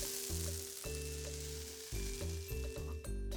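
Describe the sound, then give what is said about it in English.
Steady crackling sizzle of a spoonful of pancake batter frying in butter in a hot frying pan, a constant bright hiss running over a sustained, low, chord-like musical tone that shifts every second or so. “Put a spoonful of the pancake mixture on the hot frying pan.”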